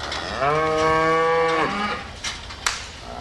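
A dairy cow lets out one long, loud moo lasting over a second, followed by quieter farmyard background noise and a brief clatter, at Pagel's Ponderosa Dairy, a 5,000-cow concentrated animal feeding operation in rural Kewaunee County, Wisconsin.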